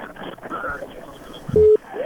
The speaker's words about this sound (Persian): خیر، تلفن قطع شو.